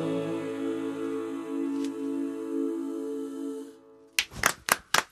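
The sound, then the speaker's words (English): A sustained musical tone fades to a brief silence, then a short burst of sparse, uneven hand claps follows, several sharp claps from two people in the Radio 1 studio after a song ends. “Well, there was two people clapping.”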